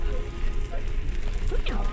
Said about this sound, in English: that sizzle? That is a nice sizzle. Let's get that. Yeah, get really in on that sizzle.